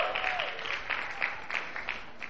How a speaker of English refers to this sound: Yeah, she does deserve a hand clap for that.